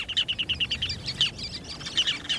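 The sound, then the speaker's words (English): A ruddy turnstone's rapid rattling call, a quick series of sharp, high chattering notes in a steady rhythm, followed by a few more scattered chirps, clear and fairly loud with no talking. “ruddy turnstones favor rocky beaches and jetties rather than tidal sand or mud.”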